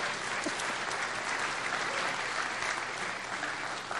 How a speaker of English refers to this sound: So, something to celebrate. Can we just get a clap or something?